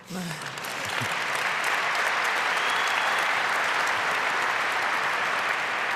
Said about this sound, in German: Ich hatte an dieser Stelle jetzt mit Applaus gerechnet.